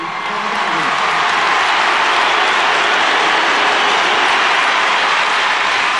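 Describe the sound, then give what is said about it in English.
A large stadium crowd roars and cheers as substitute Paul Galvin is introduced, coming on for Kieran O'Leary, in a loud, sustained wash of noise that holds steady for several seconds, with no distinct voices standing out. “Now, listen to the crowd when you hear the introduction of Finucane's Paul Galvin.”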